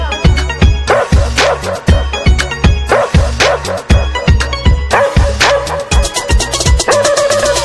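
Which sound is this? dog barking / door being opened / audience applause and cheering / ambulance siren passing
dog barking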